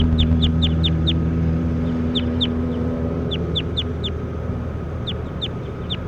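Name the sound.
bird calls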